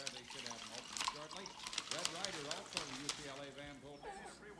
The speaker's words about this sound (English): Would you like some breakfast? Just a coffee. Black. Please. She pours his coffee.